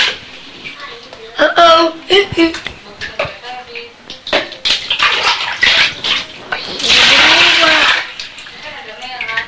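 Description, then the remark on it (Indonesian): Water runs in a steady hissing stream into a container for a second or so near the end, after a stretch of voices talking and light clattering. “Buangnya airnya dulu. Nanti lo bisa. Pelan-pelan deh. Jangan penuh-penuh ya, Dek.”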